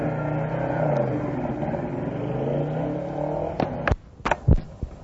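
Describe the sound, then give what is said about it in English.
Motorcycle engines rev and drone loudly together for several seconds in the trailer for the film She-Devils on Wheels, about the Man-Eaters on motorcycles, then give way to a few sharp, clattering bangs near the end. “The story of the Man-Eaters on motorcycles. She-Devils on wheels.”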